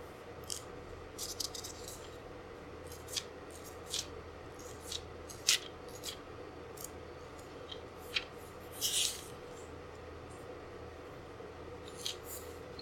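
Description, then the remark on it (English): Soft, scattered paper ticks and rustles over a quiet steady hum, with one fuller swish near the end as a book page is turned, without any talking. “Rejoicing, wrong day. Turning the page.”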